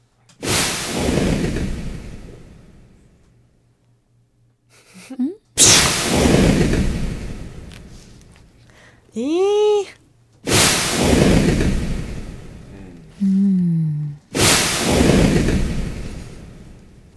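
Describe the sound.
A sharp whoosh opens into a broad, spreading wash of sound that slowly fades, repeated four times at steady intervals, with brief voices speaking in the gaps between.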